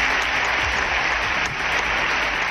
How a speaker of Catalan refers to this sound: Llarga abraçada entre tots dos, com escoltem enmig d'una forta ovació per part de tots els senadors.